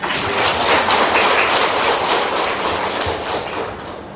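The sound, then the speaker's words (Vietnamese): A round of applause from an audience applauding themselves: a dense, steady wash of many hands clapping at once, loud and sustained for about four seconds with no voices over it. “Tự tán dương mình bằng một tràng vỗ tay.”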